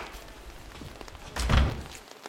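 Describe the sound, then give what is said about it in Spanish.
An apartment front door is opened at 2 or 3 in the morning after the doorbell rings, a single dull, heavy thunk about midway through, moderately loud, set against a faint low rumble with no voices. “Ángel Álvarez, el cabeza de familia, abre la puerta.”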